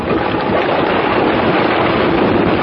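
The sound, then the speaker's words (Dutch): Loud, continuous rush of North Sea water churning and splashing against a ship's hull, recorded with the microphone held toward the water, with a steady, dense roar and no voices. “En om u eens eventjes te laten horen dat we zeker niet in een badkuip zitten, maar wel echt op de Noordzee, zal ik eens even de microfoon bij het water proberen te houden.”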